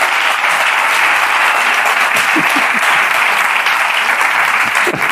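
Sustained audience applause, a dense, steady wash of many hands clapping at even loudness throughout, with a few faint voices briefly surfacing beneath it.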